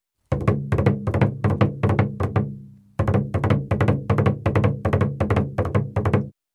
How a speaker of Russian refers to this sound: Волк подбежал к соломенному домику и зарычал. В дверь застучал.